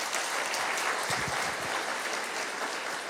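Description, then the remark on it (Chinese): A crowd claps steadily together to give glory to God, a dense, sustained wash of applause from start to finish with no voices over it. “愿意的拍手，把荣耀归给他。”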